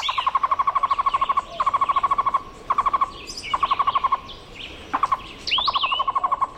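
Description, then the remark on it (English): A Cuban trogon (tocororo) sings bursts of rapid, repeated hooting notes, roughly seven phrases of varying length in steady rhythm, with fainter chirps from other birds and soft background hiss. “Its song sounds like its Spanish name, tocororo.”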